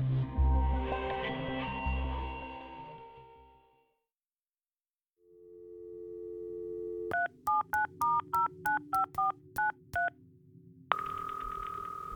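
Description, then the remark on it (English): A run of about ten quick telephone keypad tones beeps in steady rhythm over a humming dial tone, followed by a sustained line tone; a fading musical passage and silence come before. “he received an unexpected phone call from New York.”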